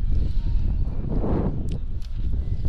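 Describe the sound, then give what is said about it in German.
Strong wind at an outdoor football match buffets the microphone in a steady, loud low rumble with gusty surges, drowning out any other sound for the whole stretch. “Der Wind zieht hier durch, der zieht schon da.”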